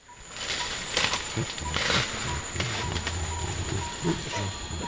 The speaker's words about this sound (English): That's a Western lowland gorilla in the Republic of Congo singing. Gorillas apparently sing, and they do vary their songs, that if you call that a song, and they sing differently.